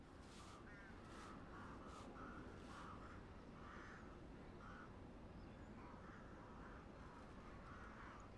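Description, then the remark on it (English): A crow caws repeatedly, harsh rasping calls coming in an irregular series over a steady noisy background, fairly quiet. “Crow. The poor thing, it has broken its neck.”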